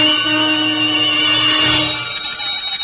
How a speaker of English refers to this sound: There was an hour yet before the ceremony, and suddenly there was a violent ring at the gate bell.